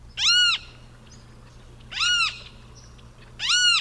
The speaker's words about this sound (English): we're profiling a large and vocal flycatcher called the Great Kiskadee, and let's begin by listening to two of their vocalizations here. You can hear it. You can hear it say its name, Kiskadee, or Kicker.